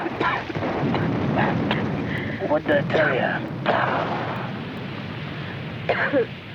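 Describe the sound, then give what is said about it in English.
A loud, sustained rumbling explosion with crashing debris roars for several seconds as a steam train careers off a bridge and dives headfirst into a riverbed, its carriages tumbling after; a voice speaks briefly over the din. “Spectacularly, the steam train careers off the bridge and dives headfirst into the riverbed.”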